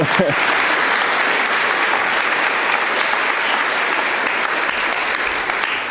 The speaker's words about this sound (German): Vielen, vielen Dank nochmal. Und ihr könnt auch nochmal klatschen.